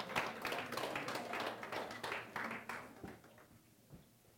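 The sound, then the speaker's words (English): An audience claps together, a dense patter of many hands that holds steady for about three seconds before thinning out into a few scattered final claps. “Go ahead, clap.”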